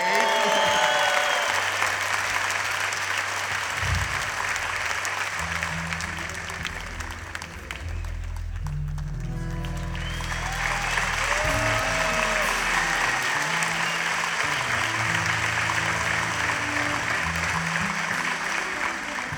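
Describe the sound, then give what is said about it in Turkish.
Sustained audience applause as a singer is called onto the stage, dense and steady for the whole stretch, with a slight dip midway before swelling again; a few brief musical tones sound underneath. “Bir arkadaşımızı daha sahneye çağırmak istiyorum. Alkışınıza ….”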